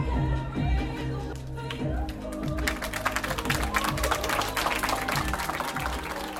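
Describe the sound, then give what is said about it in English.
Low, steady music plays as a movie's credits roll in a small auditorium. A few seconds in, a small group of students starts clapping lightly and unevenly. The scattered, polite courtesy applause carries on to the end over the music. “As the credits rolled, the Southeast kids gave the movie a few courtesy claps.”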